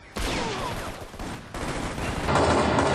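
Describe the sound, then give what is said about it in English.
Three loud gunshot sound effects go off about a second apart, each sharp crack followed by a long reverberant tail that makes the room sound somewhat big, with no talking. “When you fire a gun in an environment, a gunshot is a very short sound that then bounces off everything around it.”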